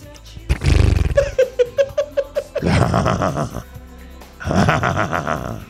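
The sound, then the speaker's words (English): A human voice imitates the racehorse Bode Express, the number 9 horse from the Preakness Stakes: a blustery lip-flutter snort, then a quavering, stepping whinny, followed by two long, raspy, nickering neighs, all loud and with no talking. “You want me to do a horse?”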